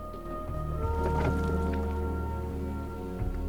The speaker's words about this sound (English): As the small boat motors down the river, sunlight glints through the canopy.